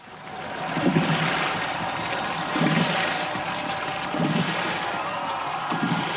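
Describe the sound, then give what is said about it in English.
Oars splash steadily through rushing river water in the 2003 Boat Race, with a regular stroke about every second and a half over a constant wash of spray, fairly loud, with no voices. “Here's the 2003 boat race.”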